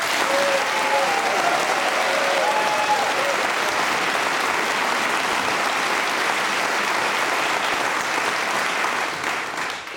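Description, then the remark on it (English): Sustained audience applause for David Sedaris, broadcast on BBC Radio 4, a dense, steady wash of many hands clapping at full strength throughout, only beginning to thin slightly at the very end, with a few faint cheers early on. “That was so kind of you to applaud like that.”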